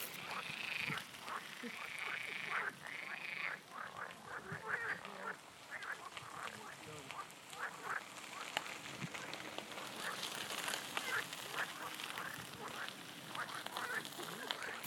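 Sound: frogs croaking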